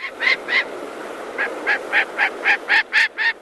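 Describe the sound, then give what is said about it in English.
A gyrfalcon, the biggest falcon in North America and rare in Wisconsin, gives harsh, repeated calls, about a dozen raspy notes in a steady accelerating series, fairly loud with no talking. “It's gerfalcon. It's the biggest falcon in North America.”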